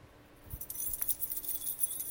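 A bunch of keys jangles for about two seconds, a quick run of bright metallic clinks and rattles, moderately loud, with no one speaking.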